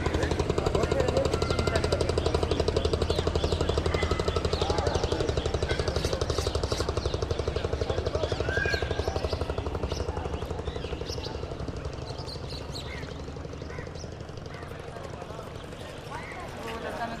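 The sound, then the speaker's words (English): A boat engine on the Ganges river chugs with a steady, rapid pulsing beat, loud at first and then easing slightly as the boat goes by, with faint voices in the background. “Just listening to that engine.”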